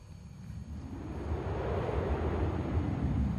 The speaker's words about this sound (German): Also auch da windelt es schon wieder ein bisschen, windet es ein bisschen so rum.